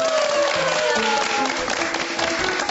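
A crowd applauds steadily, a dense, even wash of clapping that holds at the same level for a few seconds, with faint voices or tones running underneath.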